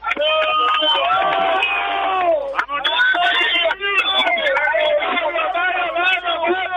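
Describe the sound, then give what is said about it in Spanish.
A crowd of supporters applauding, cheering and shouting encouragement to their boys, a loud, dense mass of overlapping voices that carries on steadily with only a brief dip partway through. “que me dice una COPE que si podéis aplaudir, darle ánimo a vuestros muchachos que están ahí.”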